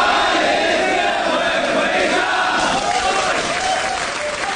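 Welcoming gongs and drums clatter in a dense, loud, unbroken wash, blended with the cheering roar of a crowd, holding steady for several seconds without a pause.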